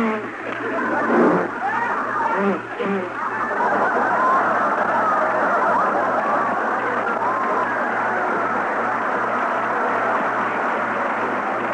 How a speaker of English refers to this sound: And here come the next four cars.